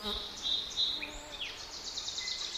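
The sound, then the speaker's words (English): A steady high insect drone hums throughout, with several short bird chirps and thin calls flickering over it; no one speaks. “And then, both birds and bugs rev up again in the late afternoon.”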